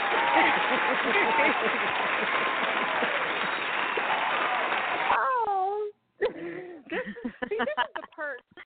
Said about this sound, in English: She needs the applause. Right. She was like, where's my clap?